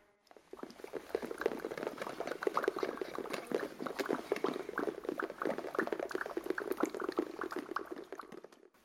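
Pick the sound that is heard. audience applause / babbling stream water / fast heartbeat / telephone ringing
babbling stream water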